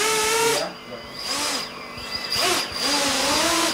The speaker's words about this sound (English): Back in the basement drone shop, the dogs open their eyes wide, uneasy as the team tests a drone in a metal cylindrical frame in the center of the room that allows it to fly, twist, and flip.